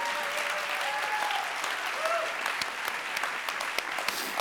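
An audience breaks into steady, dense applause that keeps up for several seconds, a thick wash of clapping with a few sharper individual claps standing out, while a faint voice or two sounds beneath it.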